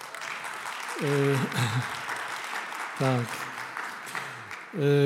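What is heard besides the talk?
audience applause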